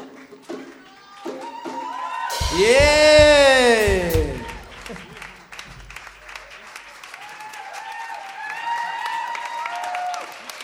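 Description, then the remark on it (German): An audience at a live music performance claps steadily and densely for the singers, with a loud swell of whooping cheers early on and scattered shouts continuing beneath the ongoing applause. “Einen großen Applaus”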